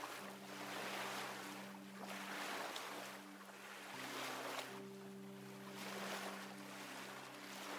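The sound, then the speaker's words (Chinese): Gentle ocean waves wash in and recede in slow, rolling swells every couple of seconds, layered over a soft, sustained low musical drone; no one speaks. “感受海浪轻柔的摆荡，拉着你去向更远、更深的地方。”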